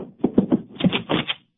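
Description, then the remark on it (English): A door closes with a quick run of wooden clacks and rattles, followed by a brighter, scraping burst as the latch settles. No voices are heard. “Heard the door close.”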